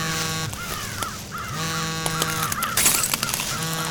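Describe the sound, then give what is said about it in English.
A mobile phone buzzes on vibrate in repeated low pulses, each about half a second long and fairly loud, with harsher tonal cries layered over it. “Wait, what's that buzzing?”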